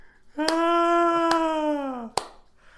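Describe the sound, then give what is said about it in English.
Three sharp, sparse hand claps, clapped like a seal, unevenly spaced, ring out over a long, steady, slightly falling vocal tone held by a single voice, with a final clap as the tone ends. “I am clapping my hands like a seal.”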